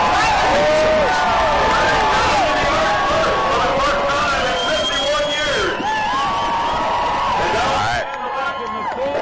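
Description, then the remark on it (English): Loud, continuous crowd hubbub at an official sled dog check-in: overlapping voices and excited shouts blend with high, wavering yelps and barks from many dogs, cutting off abruptly near the end. “I don't know if you can hear me above all the hubbub.”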